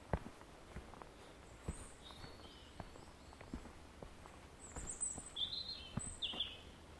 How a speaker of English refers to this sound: So we've come down here to the White Forest. Just in your bit of peace and quiet. We've got a lovely day. A bit of bird song going on.